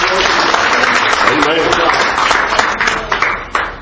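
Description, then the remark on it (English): An audience claps in praise during a morning church service, a dense, loud wash of many hands sustained for nearly four seconds before thinning out at the end, with voices calling out underneath. “let's give you a good hand clap of praise this morning.”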